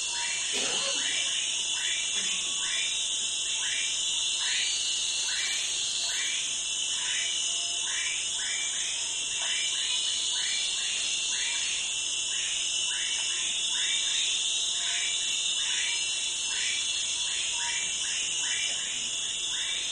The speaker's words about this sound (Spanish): Otros ecosistemas son arrasados por la minería, como este paisaje sonoro de la selva lluviosa del río Guaniamo, que hoy ya no existe.